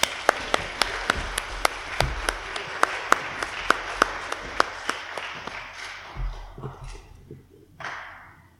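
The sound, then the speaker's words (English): A group applauds helpers who have been told to go and sit down, with a dense patter of hand claps, a few sharp, steady claps standing out on top. The clapping fades out after several seconds, leaving a faint murmur of room noise. “Let's give them a clap.”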